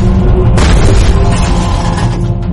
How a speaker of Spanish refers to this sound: Una carga de profundidad explota casi al mismo tiempo.